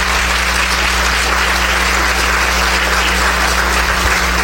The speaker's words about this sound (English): Please clap for her, because she did so much work.